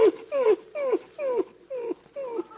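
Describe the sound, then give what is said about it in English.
A dog whines in a steady series of about six short, falling yelps, each a clear tonal cry with brief pauses between, fairly loud with no talking. “Well, looks like you're going to lose your dog, Gracie.”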